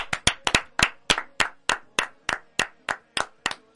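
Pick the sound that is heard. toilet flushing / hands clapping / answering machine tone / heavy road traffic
hands clapping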